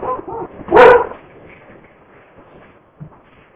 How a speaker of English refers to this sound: The dog's going to bark. We're babysitting one of the dogs, and so he likes to bark a lot, or she likes to bark a lot, so. So that's about 120 pounds of dog meat right there.